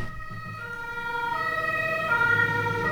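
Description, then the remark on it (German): An ambulance (rescue vehicle) siren from the Malteser or the Red Cross wails outside, its steady stacked tones growing slightly louder over a low rumble of road traffic, with no voices heard. “Warte kurz, hier kommt gerade Feuerwehr.”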